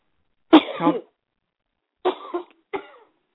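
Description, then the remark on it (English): Three deep, rough coughs, fairly loud, as someone tries to cough something up: a longer chesty one first, then after a pause two shorter hacking coughs in quick succession, with no talking. “Now, you just take a deep cough and you cough it. Cough it up.”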